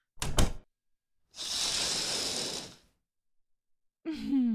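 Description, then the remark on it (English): A room door shuts with a short, solid thunk, followed by a steady breathy whoosh lasting over a second. A voice starts speaking right at the end. “Go ahead and put your gear over there near the dresser, and close the door behind you.”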